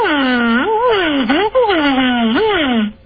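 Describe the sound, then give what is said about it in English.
A caller to the Don and Mike Show imitates a siren, his voice wailing up and down in slow, sweeping pitch glides for about three seconds, loud and steady with no other sound behind it. “No, I think he's trying to do a siren.”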